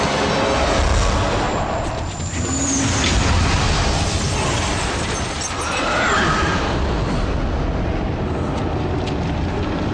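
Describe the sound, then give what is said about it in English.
A dense, loud roar of movie-style explosion effects fills the whole stretch, a sustained, rumbling wall of noise with faint whistling and screeching layers, and no speech. “Okay, obviously I have an obsession with big, crazy explosions.”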